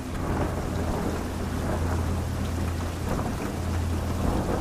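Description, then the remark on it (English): Soft, steady rain at night at Shinjuku Station hisses continuously throughout, a dense, even wash of drops with a faint low rumble underneath and no voices. “The rain that night was the soft, static kind that makes neon bleed into puddles, turning Shinjuku Station's platform into a restless mirror.”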